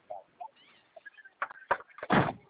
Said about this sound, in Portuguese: Nossa, bem bati a porta.